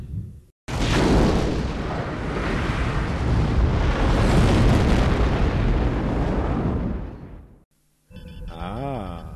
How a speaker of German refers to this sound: Im Hintergrund explodiert das Riesending. Die technische Einrichtung. Relativ unbemerkt. Aber nun endgültig.